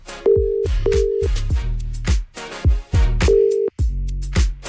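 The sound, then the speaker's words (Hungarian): A telephone ringback tone of an outgoing call made live on air during a radio show: short, steady electronic beeps repeating at intervals over a punchy rhythmic music bed, with no one speaking. “Így lesz igazi a meglepetés, hogy én felhívom őt élőadásban, és a reakcióját együtt hallgatjuk meg.”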